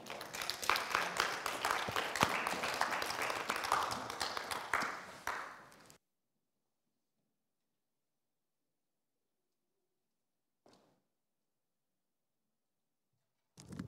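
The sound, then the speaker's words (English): A crowd claps together in sustained, dense applause to God during worship for several seconds, then it cuts off abruptly into silence, broken only by a faint tap later on. “Give a clap again to the Most High God, the King of Glory.”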